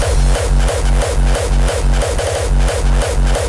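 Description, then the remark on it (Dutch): A loud, driving old-school dance track with a pounding four-on-the-floor kick, heavy repeating bassline and bright hi-hats in a steady fast rhythm, with no voices. “Dit is een ouderwetse track, zet je zonnebril maar op.”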